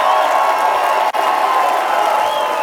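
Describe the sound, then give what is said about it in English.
Loud, sustained applause with crowd cheering, a dense wash of many hands clapping and voices whooping that holds steady throughout, broken only by a split-second dropout partway through. “Give us a big round of applause.”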